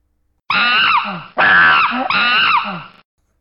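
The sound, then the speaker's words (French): Three loud, shrill chimpanzee screams in quick succession, each a harsh, wavering shriek, clear with no talking. “Sais-tu crier comme un chimpanzé?”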